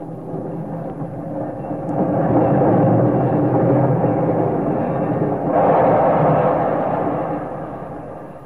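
A big steam locomotive rumbles heavily as the train shudders to a stop at a little station platform, a dense low roar and hiss that swells twice before easing off slightly, with no voices.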